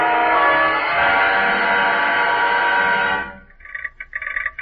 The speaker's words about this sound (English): All was serene and quiet in its 8 sleepers and 2 coaches when the train passed through the Gallitzin Tunnel and started to round Bennington Curve. Then...